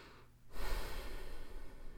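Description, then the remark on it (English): A slow, deep breath, a soft airy rush that swells after a brief moment of quiet and carries on steadily to the end, with no talking. “Well, they sat sipping tea and just breathing in and out.”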